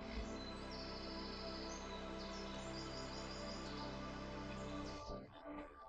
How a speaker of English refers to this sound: The rustling of the wind in the leaves and the field of birds accompany your walk.